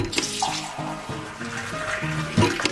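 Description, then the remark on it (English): Soda streams steadily from a soda fountain tap, a continuous hissing pour with gurgling fill sounds and a brief louder splash near the end, with no voices. “The term soda jerk comes from a fountain server needing to pull, or jerk, a small lever in order to pour the soda.”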